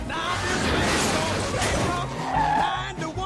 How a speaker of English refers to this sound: Tapping the wheel with his eyes closed, Ted drives onto a guardrail.